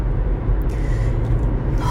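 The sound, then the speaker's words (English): A steady low rumble of a car on the move fills the background, the engine and road noise droning continuously without breaks, moderately loud, with no voices. “I don't know if this is going to sound weird because I'm on a headset, but I'm driving.”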